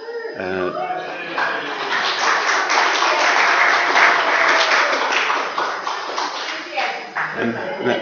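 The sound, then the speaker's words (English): A crowd breaks into steady, dense applause that swells and holds for several seconds, with a voice speaking briefly before it starts and again as the clapping fades out. “Save the applause.”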